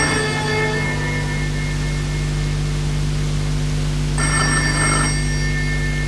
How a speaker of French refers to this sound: Mais un jour, qu'elle est dans son salon, le téléphone sonne.